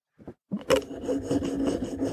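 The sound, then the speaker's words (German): A thread is sawed back and forth along a microphone, giving a steady scratchy rasp with repeated strokes. Two soft taps come first, then a brief pause before the rubbing begins. “Ja gut, wenn du da am Mikrofon lang säbelst, dann hört man das.”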